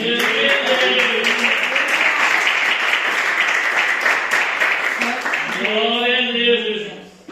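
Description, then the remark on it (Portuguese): A crowd claps steadily and loudly for several seconds in praise of the Lord, a dense sustained patter, with voices calling out over it; the applause thins toward the end as a voice carries on alone. “E eu agradeço a oportunidade, palmas que louva o Senhor.”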